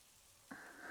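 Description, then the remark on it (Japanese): Steady, soft hiss of heavy falling rain, with the sound growing denser and brighter about halfway through. No one speaks. “雨宿りですか？”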